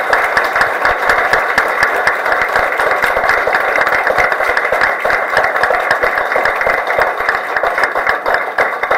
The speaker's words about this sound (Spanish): Yo quiero pedirle a ustedes que le demos un aplauso, por favor, al comisionado Francisco Dalanés, agradeciéndole este esfuerzo y este sacrificio que ha hecho.